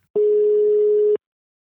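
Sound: telephone call ringing tone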